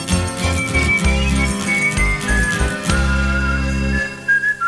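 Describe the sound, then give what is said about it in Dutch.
A clear whistled melody glides over a full band backing with steady bass and drums, the high tone holding long notes and sliding between pitches for several seconds. “Dat is mooi van een tekstschrijver, de lange stukken fluiten in hem.”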